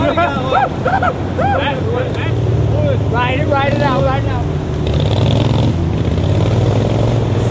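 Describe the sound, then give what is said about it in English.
Steady, loud motorboat engines drone throughout on the Illinois River at Bath, Illinois, during a 2011 tournament where boaters try to catch jumping Asian carp in nets, with people shouting and calling out over the motor rumble and rushing water. “Boaters cruise the Illinois River and trying to catch Asian carp in their nets.”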